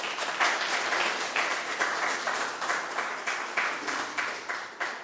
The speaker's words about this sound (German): Nochmal herzlichen Dank und ein Applaus ist es wert.